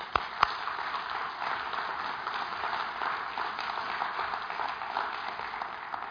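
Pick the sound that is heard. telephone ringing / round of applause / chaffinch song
round of applause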